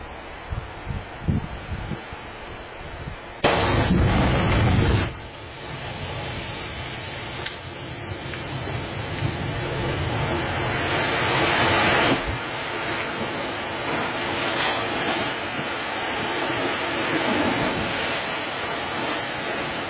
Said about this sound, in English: Here's an interesting video. At least to me it is. Maybe not to you. When lightning strikes water.